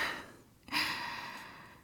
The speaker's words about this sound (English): I can hear your heavy breathing through the hole, you know.